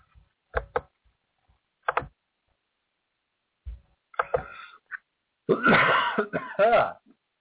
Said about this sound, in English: Sorry for coughing in your ear.